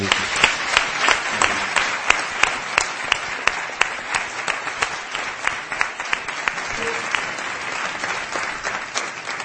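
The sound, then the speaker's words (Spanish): A crowd applauds steadily for several seconds, dense overlapping claps with a few sharper individual ones standing out, fairly loud, with no voices over it. “muchísimas gracias por acompañarnos, muchísimas gracias por vuestra música, por vuestras noticias y por compartir con todos los oyentes, que os dan un enorme aplauso, con abrazos, por haber estado estos minutos con nosotros.”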